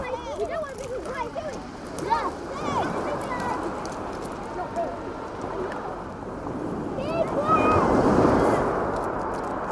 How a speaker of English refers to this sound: and the constant sound of the sea lapping up against things.